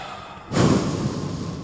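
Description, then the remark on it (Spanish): A man with his eyes closed takes a heavy, forceful breath that rushes in suddenly and holds as a loud, airy hiss for about a second, with no talking over it. “Comenzó a respirar.”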